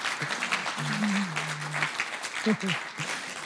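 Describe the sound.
A round of applause from a crowd: dense, steady clapping that fills the whole few seconds at an even level, with a faint voice briefly sounding underneath.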